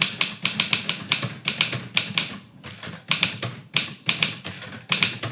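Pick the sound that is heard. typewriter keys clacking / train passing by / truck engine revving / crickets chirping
typewriter keys clacking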